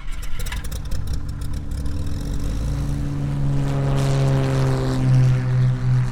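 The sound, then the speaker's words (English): A small propeller plane that flies children a minute and a half home to Middle Bass Island drones steadily, its low buzzing hum rising in pitch and strength as it revs up, with a throaty rumble underneath and no voices. “as he was loading kids up to fly them a minute and a half home to Middle Bass Island”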